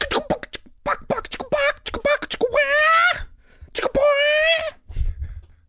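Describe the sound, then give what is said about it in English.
A voice imitates a chicken: a quick run of short, choppy clucks, then two drawn-out, wavering high squawks, with a soft low thump at the end. “All right, guys, I've been working on my chicken clucking.”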